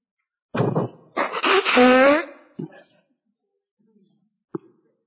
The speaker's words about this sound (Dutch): Ik moet even mijn neus snuiten